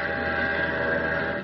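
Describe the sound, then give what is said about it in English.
A ferryboat whistle blows in one loud, sustained, steady blast that holds through the whole moment with a rich, buzzy tone, with no voices. “Like that whistle on this ferryboat. Right now, it sounds a lot different than it did a few months ago.”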